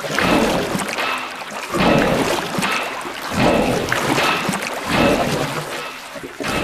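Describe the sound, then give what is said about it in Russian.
Rowers pull the long oars of a trireme ship, the 'Triera', through water at a quicker pace on the helmsman's order, in a steady rhythm, each stroke a broad splashing swell repeating roughly every one and a half seconds, fairly loud with no voices. “Дядя Кузя, грибцы заработали веснами быстрее.”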